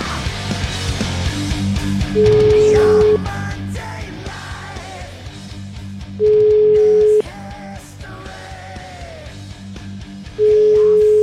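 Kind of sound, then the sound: signal or alarm, telephone ringing tone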